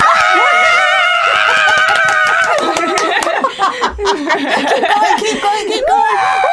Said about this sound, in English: We go, okay, everyone go crazy. So let's everyone put our hands up in the air and just start screaming. 1, 2, 3, go. Do it with me.